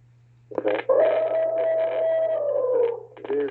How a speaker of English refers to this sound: Hold on. We're having an elephant invasion right now. Hold on.